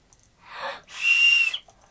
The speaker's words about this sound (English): No, let's not have the whistle, please. Why? Because it's too loud. I can do it quiet. No, you don't.